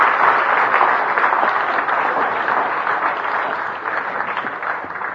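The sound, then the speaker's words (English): Steady, dense applause from an audience for a woman as she sits down after a ventriloquist act, many hands clapping at once in a loud, even wash that holds for about five seconds and tapers slightly toward the end. “If you would all please give her a big round of applause, she gets to sit down.”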